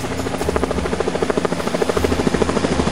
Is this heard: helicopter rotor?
yes